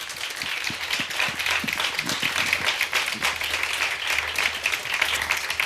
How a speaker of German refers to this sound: Vielen Dank nochmal für den tollen Vortrag und vor allem das Beantworten der Fragen. Dafür wünsche ich mir zum einen ganz, ganz herzlichen Applaus für Lasermax.